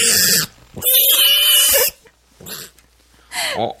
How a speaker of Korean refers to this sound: 이번에는요. 돼지 소리예요. 돼지요. 좀 네. 어려울 수 있어요. 네. 돼지 소리를 내는 사람을 맞춰 주세요.